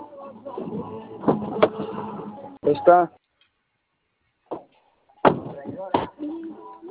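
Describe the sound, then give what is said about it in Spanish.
A car door is worked open and shut, with a few sharp thuds and clunks, one landing alone after a short pause, while a person talks. “¿Me apoyas con tu otra puerta, por favor?”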